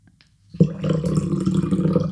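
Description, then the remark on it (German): After a brief silence, water starts pouring into a glass as a sound designer pours himself a drink, a steady splashing gurgle with a ringing resonant tone that keeps going to the end. “hat sich Wasser eingeschenkt zum Trinken.”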